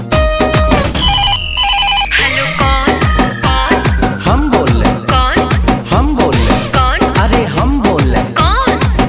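A telephone ringtone trills near the start, mixed into a loud, driving music track with a steady thumping beat and a long sliding synth tone. No one speaks.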